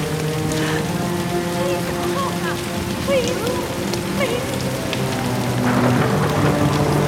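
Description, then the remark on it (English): Steady rain pours onto a street in a continuous, even hiss, with faint murmuring voices and low sustained tones drifting underneath throughout. “Nell's hair is soaked by the rain.”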